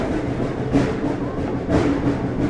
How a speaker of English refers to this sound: When everybody's on board, the conductor waves to the engineer, and engine number 4 begins one more trip.